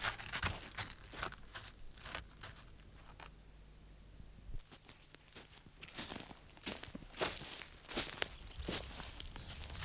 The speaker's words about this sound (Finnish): Nyt kävelemään. Ensimmäiset askeleet tuntuvat tyhjänpäiväisiltä, mutta niin se on aina ennenkin ollut. Jos aikoo Mariassa käydä, on joskus lähdettävä. Mätikköistä ruohokenttää.